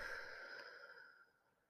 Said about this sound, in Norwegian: nå kan du puste inn med meg mens jeg puste inn denne eteriske oljen. Så pust dypt inn. Og pust ut.